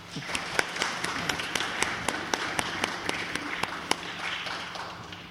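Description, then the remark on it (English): Children clap together in a brisk, slightly ragged run of sharp claps lasting about five seconds, moderately loud, with no talking over it. “I think I deserve a clap for that.”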